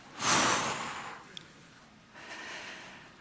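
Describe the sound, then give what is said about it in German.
During a guided breathing exercise, a deep, audible breath is drawn in sharply, followed after a short pause by a softer, slower exhale, clear with no talking. “Nun öffnen wir wieder beim Einatmen einen weiteren Port und atmen aus.”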